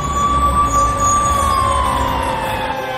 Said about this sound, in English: A fire truck is driving up. It parks.